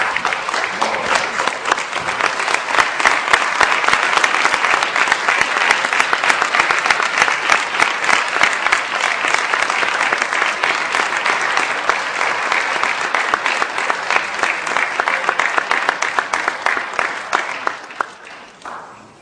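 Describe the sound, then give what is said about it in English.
A large audience stands and claps steadily for nearly twenty seconds, a dense, sustained wash of applause that holds strong throughout before tapering off in the final seconds. “Can you all stand and give a big round of applause”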